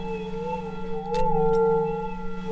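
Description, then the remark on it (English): A small Tibetan-style dolphin singing bowl, struck with a mallet, rings with steady, layered tones whose pitch wavers and bends as a small amount of water is swished around inside, with a couple of soft taps partway through, moderately loud. “There's a small amount of water in the bottom of the bowl, and she swishes it around after striking the bowl with a mallet.”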